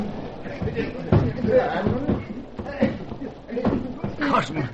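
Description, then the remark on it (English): A muffled scuffle outside a door shortly before dawn, with several dull thumps and bumps against the door, irregularly spaced over a few seconds, mixed with indistinct grunting voices. “Scuffle outside door.”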